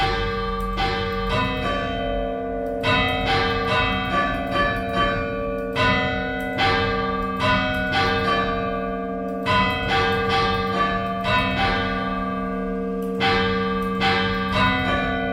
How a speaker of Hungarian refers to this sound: Két éve nyáron szerelték be, és akkor karácsony óta szól naponta a harangjáték a Szent Mihály templomban. Minden nap több alkalommal hallható a vajdaságban egyedülálló harangjáték,